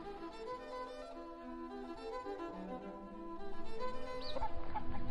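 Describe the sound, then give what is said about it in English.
A group of free-range chickens around the back, on muddy ground, clucks and murmurs continuously, their overlapping calls growing busier and louder toward the end, with a higher squawk near the finish. “I just popped around the back and met your wildly free-range chickens.”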